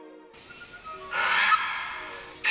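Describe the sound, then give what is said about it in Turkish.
A Vogelkop bowerbird mimics a budgerigar's call, a continuous scratchy, chattering warble that swells louder midway through and then eases, with no one talking. “Bu bir kaplan papağanı.”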